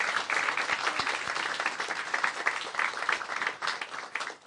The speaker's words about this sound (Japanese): 拍手しましょう。